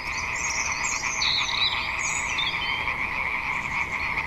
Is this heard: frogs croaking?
yes